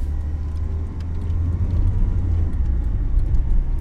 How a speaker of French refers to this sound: Je monte dans la voiture. Twingo verte. A104.